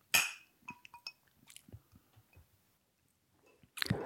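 glasses clinking

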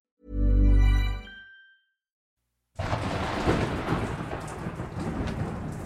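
rain falling

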